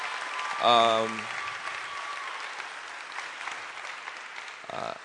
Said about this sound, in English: Give a round of applause to this brother right here.